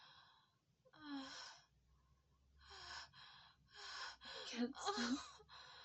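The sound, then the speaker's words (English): A run of sharp, breathy gasps and heavy breaths, about six uneven bursts, some with a short voiced catch, growing louder toward the end. No talking. “Our bodies take over, breathing, gasping, coming.”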